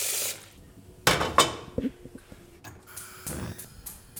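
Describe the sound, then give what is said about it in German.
A pot clanks down onto a kitchen stovetop with a couple of sharp metallic knocks, followed by lighter scraping and clattering, with running water or hiss between the hits and no talking; water is being set to boil in the pot. “Hier ist der Herd.”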